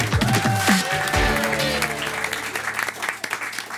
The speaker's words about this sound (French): Applaudissez Maud Le Guénédal et l'auteur de la pièce est le comédien Sébastien Castro.